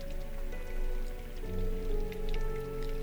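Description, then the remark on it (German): Warm, light summer rain patters steadily with scattered soft droplet taps, a continuous gentle wash that stays moderately quiet throughout, with a low sustained hum beneath it and no voices. “Und den warmen, leichten Regen.”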